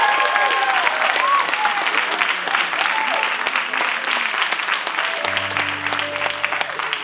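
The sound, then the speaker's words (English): A steady, loud burst of audience applause for volunteers at a church service fills the whole clip, dense clapping with some cheering voices mixed in, and a low sustained tone enters near the end. “Come on, let's hear it for our volunteers this morning.”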